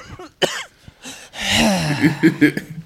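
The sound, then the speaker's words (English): A harsh coughing fit: a sharp cough, a short pause, then a long raspy run of repeated hacking coughs ending in a few strained bursts, with no speech. “I hate this cough.”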